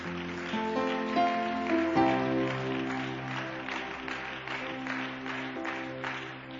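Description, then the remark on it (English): An audience gives the Lord a hand clap of praise at the end of a prayer, a dense, continuous wash of applause layered over sustained organ-like chords that change pitch around two seconds in. “In Jesus' name, give the Lord a hand clap of praise.”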